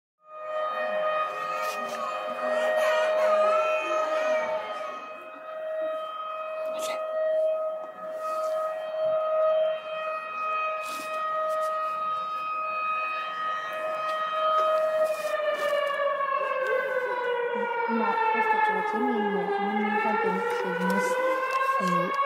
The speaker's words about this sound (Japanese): 今夜中の12時40分を回ったところですが、サイレンが鳴り響いています。